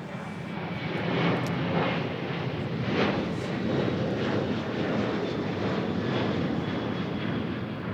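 airplane flying overhead

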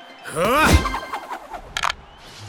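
dice being rolled

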